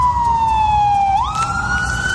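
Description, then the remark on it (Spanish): Police car sirens wail steadily, a strong tone sliding slowly down then sweeping back up, over a constant low rumble of traffic and engine noise, as police cars arrive at the scene of a shooting at a Chinese New Year celebration in Los Angeles; no one speaks. “Es el sonido de los coches de la policía al llegar a la zona.”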